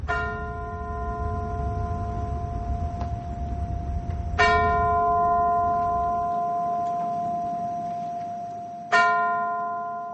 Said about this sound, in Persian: در پنسیلوانیا محل سقوط 4 هواپیما همزمان با لحظات وقوع این حمله زنگ کلیساها به صدا درآمد و نام قربانیان این حادثه قرائت شد.